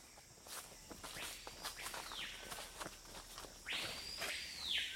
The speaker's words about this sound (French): Ben ça, c'est le papayot. C'est un oiseau qui est très discret, sauf par son chant, qui ressemble vraiment, c'est vrai, à un grand coup de sifflet. Il délimite son territoire.